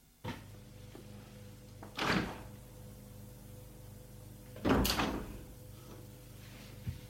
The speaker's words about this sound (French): La porte s'est ouverte.